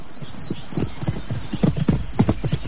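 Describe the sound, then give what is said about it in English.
Horse hooves clip-clop in a steady, uneven rhythm of sharp knocks, several strikes per second, moderately loud with a low rumbling background and no voices. “Fetch me the quietest horse.”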